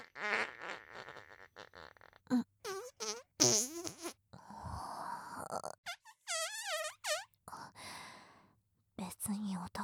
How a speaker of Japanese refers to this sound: 何？臭い？うん、そうだね、おならだもんね。